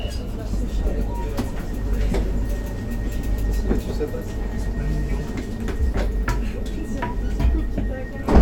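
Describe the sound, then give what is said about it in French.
A train rumbles along the rails of a crowded line in a steady, loud drone, with repeated clicks and clatters from the wheels and a thin sustained whine above. Indistinct voices murmur beneath it. “Il y a foule sur cette ligne. Les gens prennent le train ici.”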